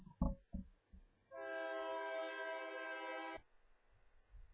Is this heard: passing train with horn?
yes